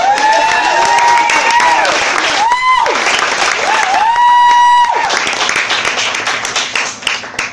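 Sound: audience round of applause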